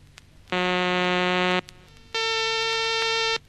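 Two steady, buzzy sawtooth tones from a tone generator, each holding about a second, the second pitched higher than the first, with a brief gap between them and a faint hum underneath.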